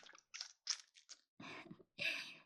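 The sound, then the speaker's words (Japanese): Wet mouth sounds: a run of quick slurping sips followed by two heavier, fuller gulping swallows while drinking breast milk, all loud with no talking. “止める暇もないくらいに夢中で飲んでしまっています。”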